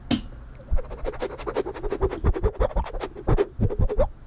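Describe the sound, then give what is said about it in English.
A baton twirling, heard as a rapid, uneven run of sharp scraping and tapping strokes that keeps going for about four seconds at moderate loudness, with no voices. “I really hope the sound of my baton twirling showed up.”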